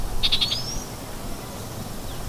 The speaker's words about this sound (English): Here's a chat going through its entire repertoire right in front of us.